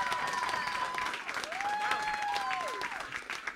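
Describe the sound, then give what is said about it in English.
An audience applauds steadily, a dense wash of clapping, with a few whistles or cheers rising through it near the middle. “I want to throw out to the audience, do you think, by a round of applause, do you think the three of us could be friends?”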